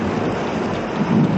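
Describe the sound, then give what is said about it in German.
A steady, loud rush of water from a natural fountain spouting directly out of the rock during a lightning storm, a continuous hiss with a deep rumbling undertone that swells slightly toward the end, with no voices. “Was ist das für ein Rauschen?”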